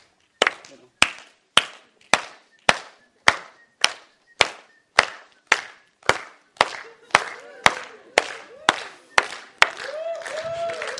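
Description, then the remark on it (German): Steady, evenly paced hand claps, about seventeen sharp smacks in a row, keeping a regular beat while a breakdancer is asked to show some moves; near the end a voice rises over the final claps. “Dann musst du aber, du musst klatschen.”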